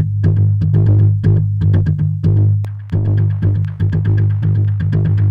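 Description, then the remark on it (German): A looping synth sequence at 120 BPM of short, rhythmic plucked notes over a steady low droning bass, each note trailing off into repeating echoes from an Echo Boy delay plugin, loud with no talking. “Mit dem Echo Boy.”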